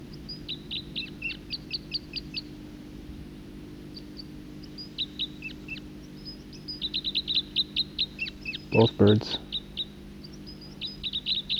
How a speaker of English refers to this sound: Both birds. Second bird.